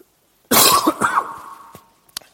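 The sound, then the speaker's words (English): A loud cough bursts out into a microphone as the speaker turns away during a Bible teaching, harsh and breathy, followed by a fading rasp and a couple of small clicks as it settles into quiet. “I turn away from you and then cough into my microphone, so my apologies.”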